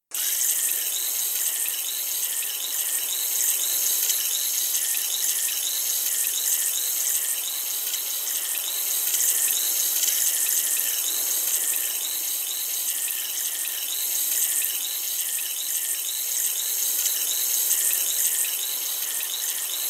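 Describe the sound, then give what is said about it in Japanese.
Continuous fizzing and crackling of foam with soft watery rustles as ears are washed with foam and water, steady for the whole stretch with no talking. “お耳に泡が当たる感覚、不快ではないでしょうか？”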